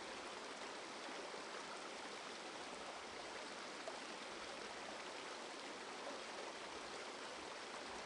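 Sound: flowing stream water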